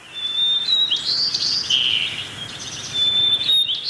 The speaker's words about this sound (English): As winter deepens, the first-year birds begin to get the syllables of their songs down, but they might sound shaky and off-key.